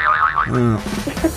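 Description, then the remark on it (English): A cartoonish boing sound effect from a bank of comedy sound effects being added on: a quick wobbling, springy twang that warbles up and down, then a lower buzzy tone, with faint voices murmuring as it fades. “I think she's just got a bank of comedy sound effects.”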